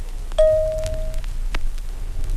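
A single bright chime, signalling to turn the page of a read-along storybook, rings out once, a clear high tone that hangs and slowly fades over about a second, with a faint low hum underneath and no talking.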